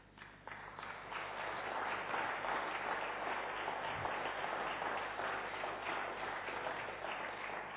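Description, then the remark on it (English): An audience bursts into applause, a dense, steady wash of many hands clapping that rises quickly and holds at full strength throughout, with no talking over it. “Give that round of applause to Jesus.”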